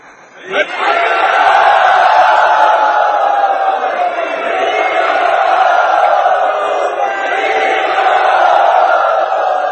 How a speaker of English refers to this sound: And it was a great roar of applaud by everyone in the audience.